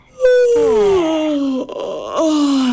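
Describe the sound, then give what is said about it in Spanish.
A voice imitates a yawn: a loud, drawn-out moaning sound that slides downward in pitch, briefly catches midway, then stretches out again and fades low. “Otra versión, claro, un bostezo, por ejemplo.”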